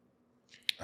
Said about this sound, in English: But that's what I'm sipping. That sounded like that's going to be super loud. My bad. I apologize.